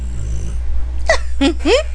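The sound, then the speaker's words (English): A dog makes three short, throaty grunts in quick succession over a steady low background hum after a quiet first half-second. “He's grunting.”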